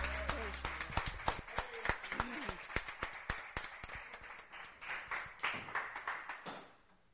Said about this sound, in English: Give the Lord a cheer.